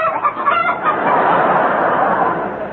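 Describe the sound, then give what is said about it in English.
A hen cackling sound effect, loud and continuous, a rapid, busy run of clucks and squawks without pause and with no voices, used on The Goon Show as the noise of a pair of cackling red flannel drawers. “a pair of cackling drawers”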